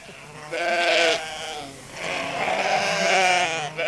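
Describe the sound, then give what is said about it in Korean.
Two drawn-out, quavering sheep bleats follow one another, each wavering in pitch with a nasal, trembling quality; the second is longer and fairly loud, with no one talking. “내 양들이 위험해!”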